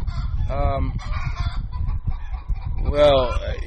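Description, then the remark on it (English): Several laying hens on a farm with about 450 hens in lay cluck and squawk, with harmonic calls rising around the start and again near the end over a steady, busy farmyard background. “We'll probably have about 450 hens in lay here.”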